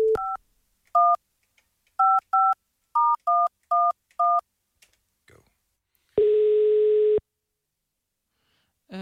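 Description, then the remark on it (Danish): A phone keypad beeps out about eight quick dual-tone presses in an uneven rhythm, followed by a single steady, buzzy ringing tone lasting about a second, then silence. “Okay, nu ringer jeg lige til mig med her.”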